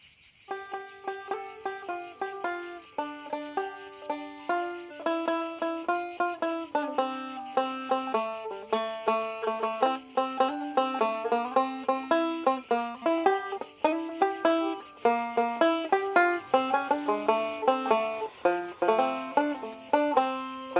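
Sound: cicadas chirping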